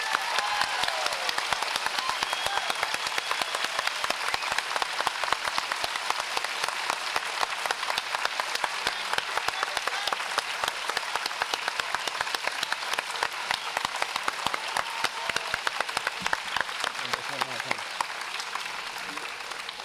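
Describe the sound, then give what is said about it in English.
A crowd at a festival applauds its volunteers steadily for about twenty seconds, dense overlapping claps forming a broad, sustained wash of sound that stays fairly even in loudness before thinning slightly at the end. “So if you can give them a rousing round of applause.”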